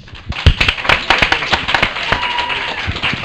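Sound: audience round of applause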